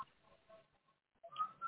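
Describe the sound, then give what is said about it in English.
Faint, thin whistling comes through a muffled telephone line in short wavering tones, breaks off for a moment of near silence, then returns a bit louder with higher notes. “Okay, to my wonderful callers who love to talk and probably whistle, you're coming out loud and strong.”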